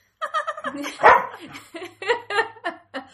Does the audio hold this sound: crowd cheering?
no